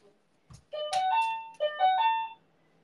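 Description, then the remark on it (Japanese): A loud electronic doorbell intercom chime, its volume turned up very high, rings out alone, two rising two-tone phrases played back to back with bright harmonic tones, preceded by a couple of soft thumps. “エイペックス中でも気づけるようにと思って、音量バカみたいに上げたバカでかインターホンです。”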